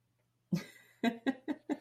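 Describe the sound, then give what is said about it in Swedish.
A burst of coughing: one harsh cough followed by four quicker coughs in an uneven rhythm, fairly loud, with a faint low hum underneath and no talking. “jag hostar och sen mutar jag.”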